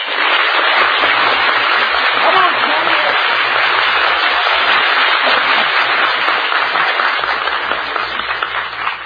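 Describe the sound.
A studio audience in Hollywood cheers and applauds loudly and steadily for about nine seconds for guests of honor at a party, a dense wash of clapping with shouts mixed in and a brief spoken phrase barely audible beneath it.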